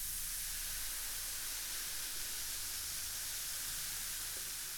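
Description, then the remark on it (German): Baking powder fizzing as hot water is poured over it in a bowl, a steady hiss with fine crackling bubbles that holds an even level throughout, with no voices. “Ach, herrlich, wie es zischt!”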